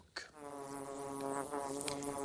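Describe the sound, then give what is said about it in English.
Bees buzz steadily and loudly around the hollow tree where they live and make honey, a dense, continuous droning hum that starts abruptly and holds without pause, rising slightly in intensity, with no voices present. “Master Pinsne decided to follow the aromatic fragrance. And finally, he discovered the bee's tree.”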